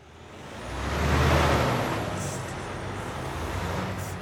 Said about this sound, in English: They sound just like any one of the 3 million large trucks driving on roads across the U.S. today. But behind the wheel of the big rig, semi, tractor trailer, isn't a weather-beaten man in a trucker hat. In fact, there isn't a human in the jump seat